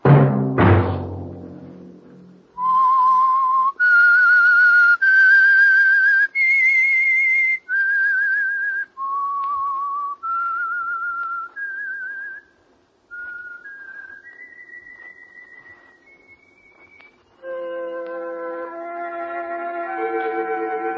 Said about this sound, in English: Let that whistle be your signal for the Signal Oil program, The Whistler.